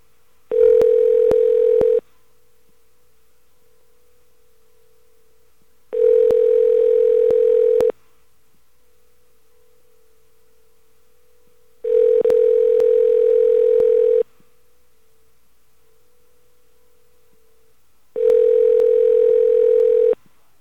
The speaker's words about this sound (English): Okay, I'm going to stop dialing 9 now. Just going to dial the 800 number for Freddy the Fox. Freddy the Fraud Fox.